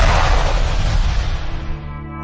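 A single loud firecracker blast, close and booming, with a broad crackling burst that rumbles and fades over about two seconds. No voices.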